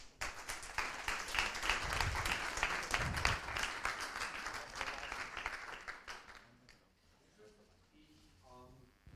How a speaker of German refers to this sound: Großen Applaus einmal